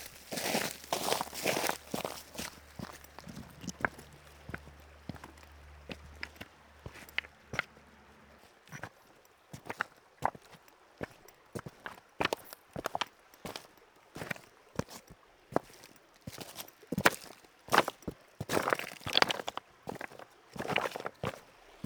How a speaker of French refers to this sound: Alors avant de rejoindre la rivière, je vais marcher sur les galets.